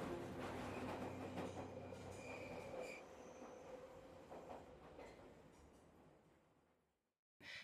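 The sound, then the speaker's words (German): A silver subway train rumbles loudly through a tunnel in Stockholm, its wheels squealing on the rails, then the roar gradually fades away, ending in brief silence and a short final burst of noise. “Und manche behaupten bis heute, dass sie immer wieder den silberfarbenen Zug durch die Tunnel der Stadt fahren sehen.”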